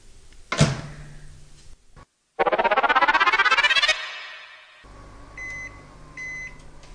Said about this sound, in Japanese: で、これをレンジにかけていきます。600ワットのレンジに茹で時間が3分のスパゲティなので、プラス3分で6分かけてみます。容器には絶対に蓋をせず、ラップも蓋もかけずにオープンなままレンジに入れてください。